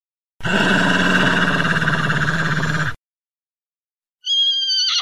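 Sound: wolf growling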